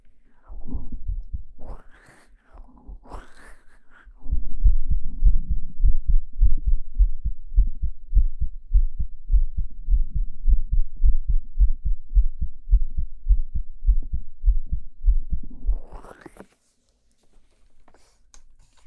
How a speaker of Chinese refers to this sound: 先听一下你的心跳啊。心跳的挺快啊，是不是有点紧张？